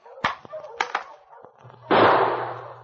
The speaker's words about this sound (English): I shoot him after I shoot his master.